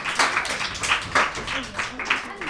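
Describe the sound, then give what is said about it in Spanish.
A small group applauds during a quiz game after a team scores a point, with a steady patter of hand claps that runs through the whole moment, lively but not very loud, while some faint voices carry on underneath. “Un aplauso.”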